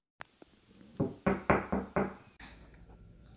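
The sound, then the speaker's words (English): Someone raps on a door with a quick series of five firm, evenly spaced, fairly loud knocks, preceded by a couple of faint taps and followed by a brief shuffle. “I told you not to knock on the door.”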